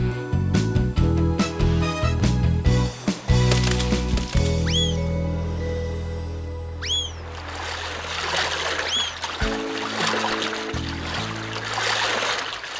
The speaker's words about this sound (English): Paro starts to row a boat.